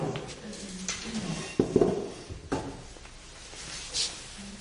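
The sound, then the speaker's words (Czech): A chair is swiveled around, with soft rustling and shuffling, a couple of sharp knocks and creaks in the middle, then quieter movement trailing off. “Já už si takhle natočím židli.”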